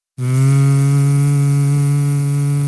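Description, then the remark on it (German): A voice imitates a slow cordless wall drill that does not drill well, with a loud, steady, buzzing drone. It starts abruptly and holds one low pitch for nearly three seconds without pause. “Und ich habe einen Akkubohrer für Wände, der nicht gut bohrt. Der bohrt ungefähr in der Geschwindigkeit.”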